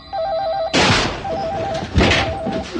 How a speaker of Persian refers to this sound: همه ی تلفن ها شروع میکنن به زنگ زدن.